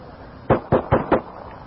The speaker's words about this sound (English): Now the guy's shooting at the police officer with his rifle. Now listen to this.